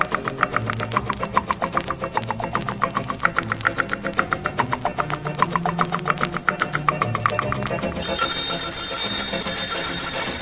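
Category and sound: household object, alarm clock bell ringing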